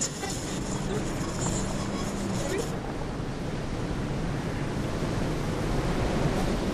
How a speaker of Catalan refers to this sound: Hi havia una emissora que durant tota una setmana es va dedicar a programar el so de l'oceà.